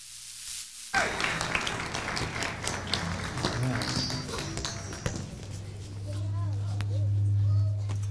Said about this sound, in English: Let's give them one more round of applause as they leave.